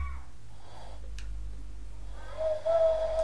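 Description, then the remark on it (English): A person imitates an owl hoot by blowing, producing a steady, breathy mid-pitched tone that rises in loudness near the end after a quiet stretch with a low background hum. “Is that like an owl?”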